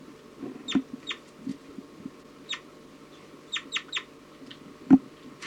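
bird, birds calling

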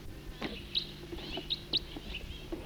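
bird, bird flight call

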